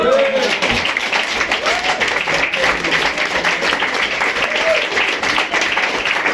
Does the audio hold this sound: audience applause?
yes